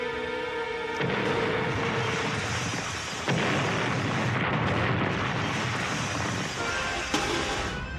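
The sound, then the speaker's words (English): A loud staged fake explosion made with flash powder bursts in with a deep roar, a second blast follows moments later, and the rumbling debris noise stays heavy and sustained to the end, with no voices. “Pretty good for a fake explosion.”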